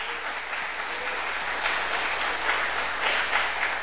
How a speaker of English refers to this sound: And if you don't care, just give God a hand clap of praise and thank him.